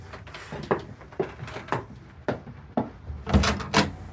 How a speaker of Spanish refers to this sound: Abre la puerta de par en par, dejando ver la fea escalera y la sucia puerta de la habitación del frente.